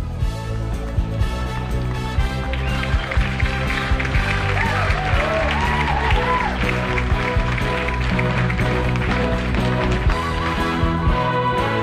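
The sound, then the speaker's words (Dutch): A crowd applauds the champions at a prize ceremony steadily for several seconds, the clapping blending into a dense, continuous wash of noise with music playing underneath and a few voices calling out. “Mooi applaus voor deze kampioenen.”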